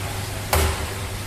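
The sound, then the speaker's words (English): A front-end laser at a research centre for powerful lasers fires with one sharp, slap-like crack that decays within a fraction of a second, set against a steady low electrical hum. No one speaks. “That was not a slap on the table, but the sound of a front-end laser.”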